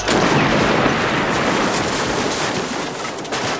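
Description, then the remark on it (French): A wall of a snow fort collapses with a loud, rumbling crash in a scene from the Québec film La Guerre des Tuques, a dense wash of crunching noise that stays heavy for several seconds without easing off. No one speaks. “Ça, c'est un mur du fort qui s'est écroulé.”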